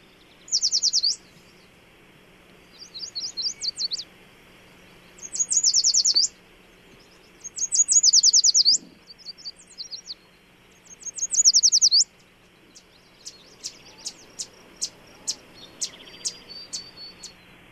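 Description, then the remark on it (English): A yellow warbler sings five bright, sweet high-pitched phrases at regular intervals, then a run of quicker, sharp high notes follows. No one speaks, and a faint low hum sits underneath. “So since we're talking about warblers, let's actually listen to a yellow warbler.”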